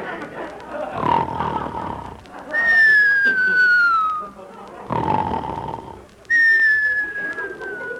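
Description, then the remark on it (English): Two long, slowly falling whistles, each following a rough, snore-like breath, in a repeating pattern. Clear, with no talking. “Whistles tonight.”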